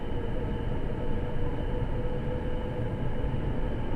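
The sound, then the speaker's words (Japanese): A subway train runs steadily along the rails through a straight section of track, next stop Kita 34-jo station, a loud, continuous low rumble and rattling hum with faint whining tones above it, unbroken for the whole stretch. “皆様、地下鉄をご利用いただきましてありがとうございます。この電車は真駒原行きです。”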